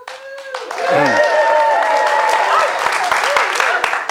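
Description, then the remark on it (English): A crowd bursts into applause, dense clapping mixed with whoops and rising, wavering hoots and cheers, loud and sustained for several seconds before the sharp claps thin slightly toward the end. “He bowed with a flourish, and everyone applauded and hooted.”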